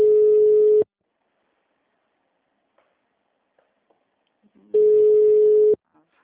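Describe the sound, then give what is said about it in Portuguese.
A steady single-pitched telephone tone sounds twice, each burst just under a second long, separated by a long silence with a few faint clicks and rustles. “Telefone desconectado?”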